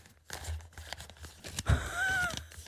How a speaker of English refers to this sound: Mocha literally has a book and he's rustling through the pages